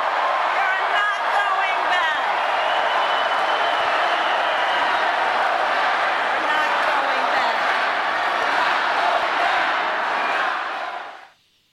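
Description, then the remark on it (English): A large crowd at a Vice President Harris rally in Las Vegas cheers loudly and continuously, a dense roar of many voices with shouts and some clapping, sustained at high volume for about eleven seconds before cutting off abruptly. “I want you to just hear the crowd, a quick snippet of Vice President Harris talking to a huge crowd out in Las Vegas, a key swing state this weekend.”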